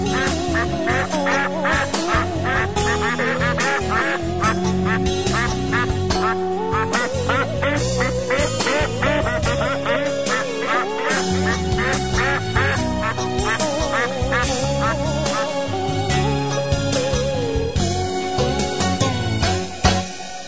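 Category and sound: animal, flock of ducks quacking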